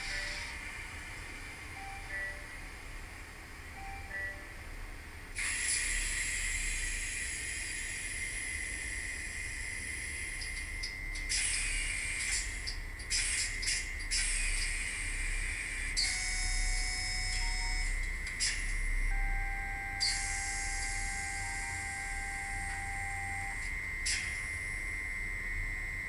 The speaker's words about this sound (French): Sur F1, on a bien sûr le démarrage. Voilà, bruit de la caténaire. Bruit des pantographes, pardon. Et on a toute la séquence de démarrage qui est assez complète d'ailleurs sur ce modèle-là.